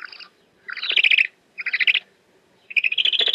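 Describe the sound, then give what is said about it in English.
Three bursts of high, rapidly pulsing calls from a great horned owl at the Arizona-Sonora Desert Museum in Tucson, each about half a second long with short silent gaps between, fairly loud with no talking. “Oh, this is a great horned owl who has a very special message today.”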